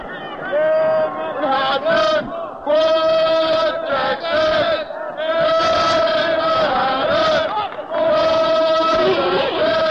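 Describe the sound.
A basketball game crowd of students at Madison Square Garden in New York City shouts and cheers loudly and continuously, many voices overlapping in a high-pitched roar that surges and dips in waves for the whole stretch.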